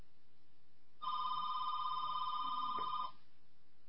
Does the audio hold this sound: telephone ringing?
yes